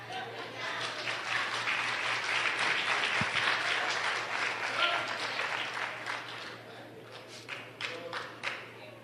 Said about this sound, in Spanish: Si ustedes aplaudieron porque yo estaba, porque yo terminé, yo no he terminado. Así que me deben un aplauso.